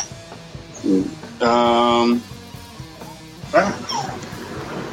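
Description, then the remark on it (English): A female dog whines and whimpers: a short yelp, then a sustained, steady high-pitched whine lasting under a second, followed by a few rising and falling whimpers over a low background. “Don't want to hear that crying and whining.”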